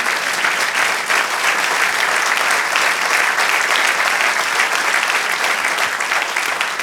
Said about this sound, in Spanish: Amén. Si quiere aplaudir, déle alabanza al Señor.